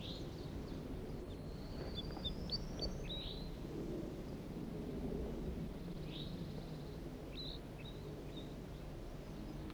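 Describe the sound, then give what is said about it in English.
Scattered high, thin chirps and short whistles from a wild flock of birds, five males and one gray bird, come in small bursts over a steady, loud low rumble of background noise. “recording a wild flock.”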